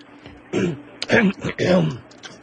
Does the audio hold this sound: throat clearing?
yes